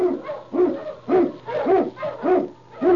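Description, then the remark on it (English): Sled dogs, led by the Husky lead dog King, bark and yelp in a steady, repeating rhythm while blazing a trail through storm and snow in the Yukon, about six loud, drawn-out cries over a faint low hum, with no one speaking. “King, the swiftest, strongest of Eskimo lead dogs, blazes the trail through storm and snow for Sergeant Preston as he meets the challenge of the Yukon.”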